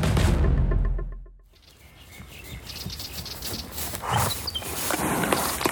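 A ridden horse shifts and moves about, its hooves making a scattered, uneven patter, with a low rumbling breath at the start and no voices.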